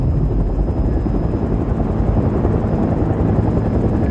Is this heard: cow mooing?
no